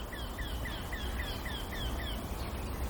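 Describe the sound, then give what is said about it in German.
A small, bunting-sized bird with bark-coloured plumage repeats one short, squeaky note in a steady, monotone series that quickens slightly, heard fairly faint over a low background rumble with no talking. “Oder besser gesagt, der Gesang. Dieses Quäkende. Ansteigend in der Geschwindigkeit.”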